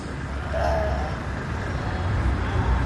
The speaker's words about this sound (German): Als ich da war, waren es Schafe. Ich war da im Frühsommer, es war aber schon ziemlich heiß, 30 Grad ungefähr. Und diese LKWs fahren durch ein Eingangstor in den Hafen rein.